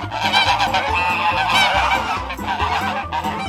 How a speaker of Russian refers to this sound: Гуси, увидав мальчика, загоготали и двинулись следом.